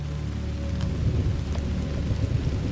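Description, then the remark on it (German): Steady raindrops drum on a soft, mossy path, a dense, even patter with scattered brighter drips over a low, continuous rumble. No voices are heard. “Das gleichmäßige Trommeln von Regentropfen auf einem weichen, moosigen Pfad.”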